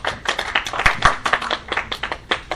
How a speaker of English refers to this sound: A round of applause.